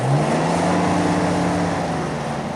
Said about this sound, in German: Mit unserem Geländewagen donnern wir über die schnurgerade, aber wellige rote Piste.